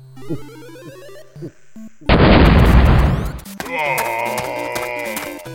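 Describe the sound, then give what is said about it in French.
In a game, a character caught between closing door leaves violently tears the door off: a sudden loud, roaring crash lasting over a second, set between stretches of busy, tonal electronic music. “Il a arraché la porte.”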